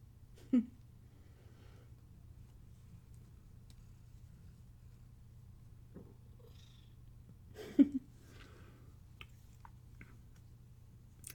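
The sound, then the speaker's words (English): A cat purrs steadily, a low continuous rumble running the whole time, broken by two brief louder sounds, one near the start and one later on. No one speaks. “No, Kitty's off the bed till it's made.”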